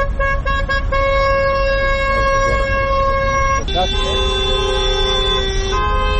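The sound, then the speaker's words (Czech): Car horns blare in long, overlapping blasts over steady street rumble as a taxi drivers' protest convoy of nearly 100 cars drives through the streets of Podgorica at noon, the pitch of the honking shifting partway through as several vehicles keep sounding together, loud. “Blizu 100 automobila kretalo se u koloni ulicama glavnog grada u podne kada je počela protestna vožnja, čiji su učesnici još jednom pozvali nadležne da riješe problem divljih taksista.”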